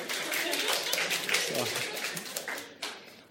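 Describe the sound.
An audience gives a person a round of applause, with dense, steady clapping filling the whole stretch. A few voices and cheers rise briefly through the noise.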